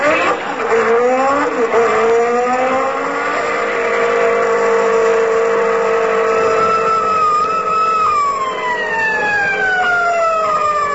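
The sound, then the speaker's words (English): A car engine roars as the car speeds at 42 miles an hour in a 20-mile zone, its pitch climbing and sliding, while a siren-like wail glides up and down over it as an officer pulls the car over. Loud and continuous, with no voices. “42 miles an hour in a 20-mile zone. Left turn with no signal.”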